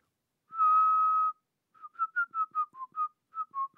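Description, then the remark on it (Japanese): A father whistles a clear tune at night to show his children how to whistle: one long sustained note, a short pause, then a quick series of short melodic notes rising and falling in pitch, with no talking. “いいや、パパの聞いてん。”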